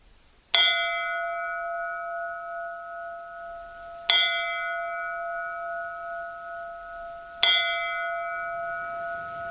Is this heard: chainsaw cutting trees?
no